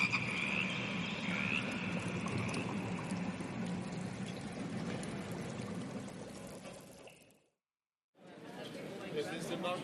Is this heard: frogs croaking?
yes